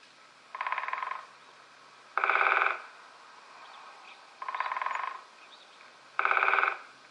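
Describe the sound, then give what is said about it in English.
Four short bursts of rapid woodpecker drumming as it hammers on a tree, each a fast rattling roll lasting about half a second, spaced evenly and alternating softer and louder, with no voices. “A woodpecker hammers at the tree to communicate with potential mates and rivals.”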